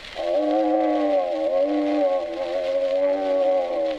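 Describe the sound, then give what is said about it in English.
A polar bear growling in one long, unbroken rumble that holds steady for about four seconds, loud, with no other sounds around it. “There was a polar bear who growled like this.”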